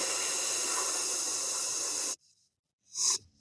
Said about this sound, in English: Then I close my teeth and I breathe out through my teeth and make a hissing sound like.